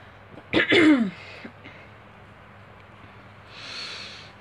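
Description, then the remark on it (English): A single harsh throat clearing with a cough-like burst from a person with a cough, lasting about half a second, followed by faint shuffling and a soft breathy hiss, otherwise quiet. “I have a cough.”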